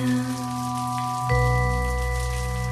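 Steady heavy rain hisses throughout while a sustained droning tone holds underneath, growing lower and fuller about halfway through. No voices.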